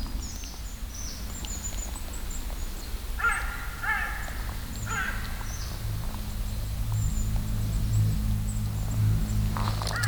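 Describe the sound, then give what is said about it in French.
A crow at the edge of a forest gives a few harsh caws in two short bursts over a steady low rumble of an aircraft droning outdoors. No one speaks. “Peut-être que le corbeau est effrayé par le son de l'avion.”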